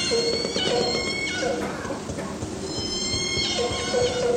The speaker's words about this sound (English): These groups have very different vocalizations. So here's a resident whale's vocalization. So you've got a few different whales that are chatting with each other.